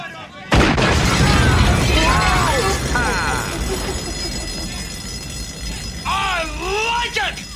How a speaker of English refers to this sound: Let me try that. Cobra assault cannon, state of the art. Bang, bang.